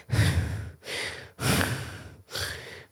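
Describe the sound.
A voice imitates slow, heavy sleep breathing: four long, breathy inhale-exhale sounds in a steady rhythm, fairly loud, with short pauses between them and no talking.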